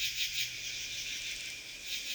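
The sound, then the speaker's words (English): A steady, buzzing katydid chirr, made by rubbing its wings together, fills the air, a dense high-pitched stridulation with slight pulsing swells, heard alone without any voices. “Katydids make sounds in this way. The katydid gets its name from the sound it makes.”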